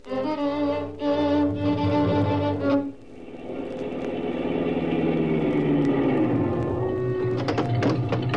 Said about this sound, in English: Keep that motor running, I'll be right back.